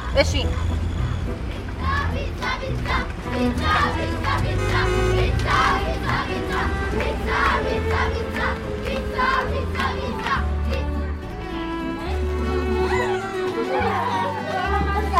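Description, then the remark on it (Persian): A lively crowd of children's voices chatters and shouts together nonstop, fairly loud, in a restaurant where the children sit around a long table eating pizza, with a steady low background hum underneath the cheerful babble. “داخل رستوران بچه ها دور یک میز طولانی نشستن، با خوشحالی پیتزا میخورن.”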